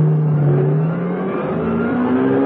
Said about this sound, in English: She made for her car, climbed in, started, reversed, and was, in a matter of seconds, heading for the exit from the car park.